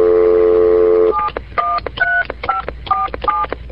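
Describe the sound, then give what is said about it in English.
A steady telephone tone gives way to a quick run of keypad dialing beeps, about seven short two-pitch tones punched in a brisk, slightly uneven rhythm, clear. “Phone working.”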